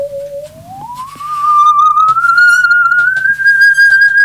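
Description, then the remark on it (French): A musical saw, held straight and bowed to demonstrate a low and a high note, makes one long, pure, eerie tone that glides upward from a lower pitch and then holds steady, fairly loud, with no talking over it. “Et je frotte avec un archet pour obtenir le son.”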